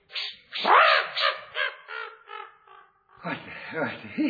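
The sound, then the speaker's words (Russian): A crow perched on a hat caws several times in quick succession, harsh, followed by a brief pause and then a stretch of speech-like vocal sounds. “Ты не можешь согнать с моей шляпы вот эту нахалку ворону?”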